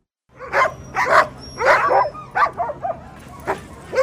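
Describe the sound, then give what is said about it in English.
A pack of sled dogs barks and yips excitedly in rapid, overlapping bursts, several animals at once, with a steady low hum underneath and no talking. Hundreds of sled dogs fill the streets of downtown Anchorage, Alaska, in March at the start of a 1,000-mile sled dog race. “Every March, the streets of downtown Anchorage fill with hundreds of sled dogs and mushing fans outfitted in their finest furs.”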